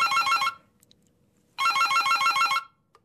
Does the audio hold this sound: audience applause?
no